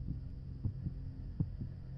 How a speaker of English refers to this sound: I mean, I dropped my bag and I raced home as fast as I could. My heartbeat was banging through my chest.